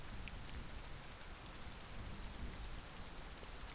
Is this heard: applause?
no